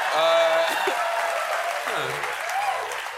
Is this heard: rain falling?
no